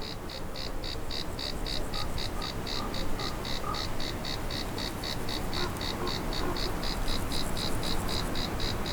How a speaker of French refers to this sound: Il y a quelques cigales à 1517 mètres d'altitude. Donc, on peut se poser quelques questions du style, mais qu'est-ce qu'elles font ici?